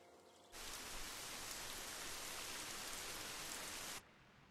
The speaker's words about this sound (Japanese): 雨降っちゃったね。 ラジオに天気は関係ないでしょ。